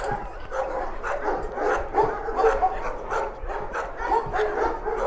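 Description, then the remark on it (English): Several dogs bark at the Front Street Animal Shelter in a steady, overlapping chorus of sharp, mid-pitched yaps and woofs, with the occasional whine mixed in and no pause for the whole stretch. “The sign said Front Street Animal Shelter.”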